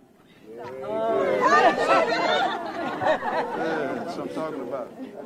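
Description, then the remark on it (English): A crowd chattering outside the Wyandotte County Courthouse in Kansas City, Kansas, many overlapping voices blending into a steady, lively murmur with occasional louder exclamations, fading in at the start and holding fairly loud throughout. “Outside the Wyandotte County Courthouse in Kansas City, Kansas, a crowd is gathering around 41-year-old”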